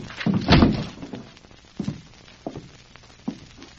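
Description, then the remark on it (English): A door is rushed open with a loud, heavy crash and rattle, followed by three scattered dull thumps, like hurried footsteps or bumps, with no voices. “Let's rush the door.”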